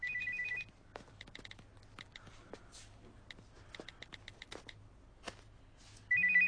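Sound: phone ringtone ringing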